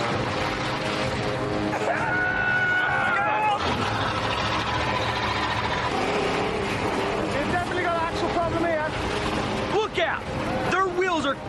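The British team's vehicle engine roars and strains continuously at high revs, a dense mechanical drone with rising whines, as its wheels spin without grip while it tries to push through; voices murmur faintly underneath.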